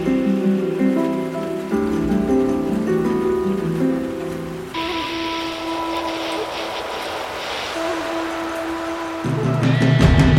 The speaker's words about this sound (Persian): تمام گوش های خانه را از ابر پر کردم. بزن با پنجره حرف دلت را، پچ پچ باران.